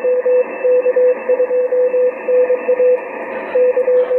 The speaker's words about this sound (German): Morse gehört auch zum Hobby dazu. Ich betreibe es nicht sehr aktiv, aber es gibt Leute, die das eigentlich als vorwiegende Betriebsart brauchen.